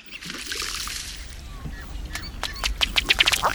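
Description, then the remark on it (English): A male ruddy duck's feet patter across the water in a quickening burst of sharp slaps as he runs across the surface with rapidly beating wings in courtship display, following a soft rush of splashing water, with no voices. “After the bubbling display, the male will usually run across the water with rapidly beating wings, his feet putt-putting like a little motorboat.”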